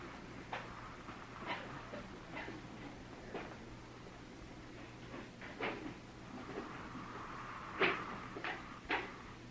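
A series of irregular wooden knocks and clunks as chairs are brought in and set down on the floor behind the people being addressed, scattered across several seconds with a low steady hum underneath and no talking.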